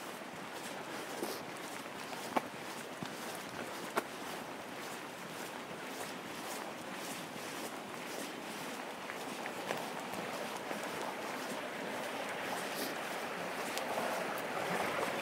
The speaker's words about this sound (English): Now there we are, there's a bit more of that stream really coming down. The water looks, you know, very clear. It goes over quite a sort of rocky bed to the stream itself, so the water looks really clear.